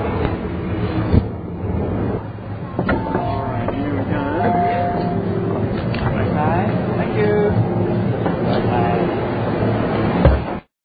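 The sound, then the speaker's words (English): Steady low rumble of a metro train in Hong Kong while changing trains onto the TKO line, with a crowd murmuring throughout and a few brief chime-like tones rising above the din. “Just changed trains onto the TKO line.”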